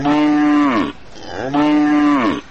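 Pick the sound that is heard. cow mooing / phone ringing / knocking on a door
cow mooing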